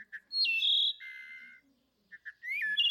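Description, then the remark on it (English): A wood thrush, a bird of the east, sings its flute-like song in two phrases: soft introductory notes, then a clear ringing whistle and a fluttering trill, alone with no talking. “You also have the wood thrush from the east.”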